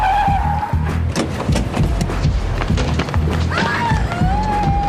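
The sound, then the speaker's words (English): A car's tires squeal in a high whine over a heavy engine rumble, with scattered thuds and knocks as the vehicle lurches to a halt, loud throughout. “Stop the car right here.”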